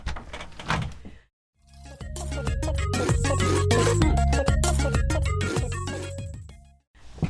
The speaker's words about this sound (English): Oh, I think we have a special guest. Knock at the door.